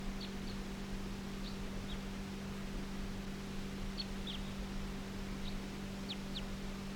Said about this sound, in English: Recording, this is bird 327.